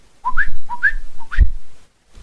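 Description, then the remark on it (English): Three coqui frog calls in quick succession, each a short lower note followed by a higher, rising chirp, sounding clear and whistle-like over a low background rumble, with no talking. “You could hear crickets, or if you're in Puerto Rico, you could hear the coquis.”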